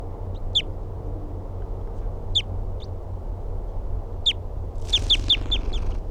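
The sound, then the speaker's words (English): A wild bird calling from a very small tree about 3 feet above the ground gives sharp, high, downward-slurred call notes, first singly with pauses between, then a quick run of five or six, over a steady low background rumble. “He's calling now from a very small tree, about 3 feet above the ground. Wild bird.”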